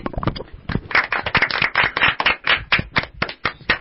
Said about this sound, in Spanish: lo hizo muy bien, hay que darle un fuerte aplauso.